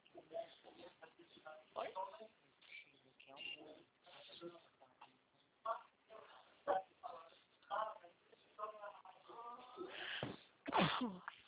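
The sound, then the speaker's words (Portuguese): A person sneezes, two sharp, loud bursts close together near the end, following a stretch of people talking in the background. “E eu aqui espirrando, só de mil.”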